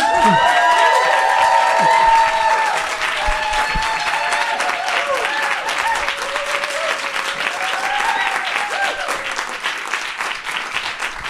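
Steady audience applause fills the whole clip, a dense wash of clapping with scattered cheers and whistles on top, loud at first and easing slightly as it continues.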